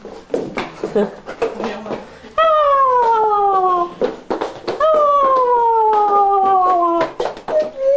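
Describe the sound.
A dog howls twice, each a long, loud, drawn-out wail sliding downward in pitch, close by, with brief bursts of talking before, between and after the howls.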